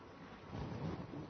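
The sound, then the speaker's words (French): A low, rumbling roll of thunder swells after a brief quieter start and stays heavy for the rest of the moment, with a faint rain-like hiss underneath and no voices. “Listen to the thunder.”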